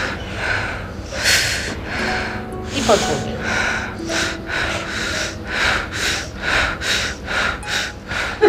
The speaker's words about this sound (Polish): głęboki wdech nosem, wydech usta. Wdech nosem, wydech usta. Spłycamy oddech.